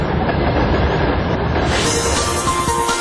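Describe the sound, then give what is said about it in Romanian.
A train rumbles steadily past a house in Basarabeasca, loud, its broad roar building brighter toward the end with a faint metallic squeal on top. No voices are heard. “Acum se aude trenul.”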